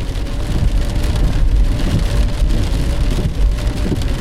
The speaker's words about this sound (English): I cannot believe this rain. I'm going to have to get oars soon. I can barely see anything.